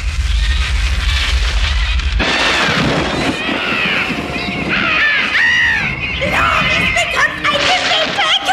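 A deep, heavy rumble of thunder rolls over the mountains for a couple of seconds, then fades as a flock of harsh, screeching birds takes over, calling loudly and repeatedly.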